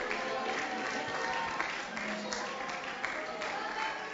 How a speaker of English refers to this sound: Let's just give the Lord one more hand clap of praise.